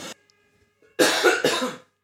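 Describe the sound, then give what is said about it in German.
Two loud, harsh coughs in quick succession, following a short burst of sound and a near-silent pause. “Bloß wir müssten alle drücken, wenn du so laut hustest.”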